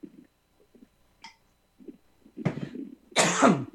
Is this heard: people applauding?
no